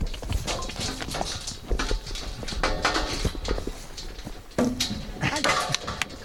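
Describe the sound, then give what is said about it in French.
Cows' hooves clatter and thump as the cows climb up into a trailer one after another while being pushed in, a dense run of irregular knocks and scrapes, with voices occasionally mixed in. “Ah bah ça y est, il y en a un qui est monté. Allez, on va pousser les autres.”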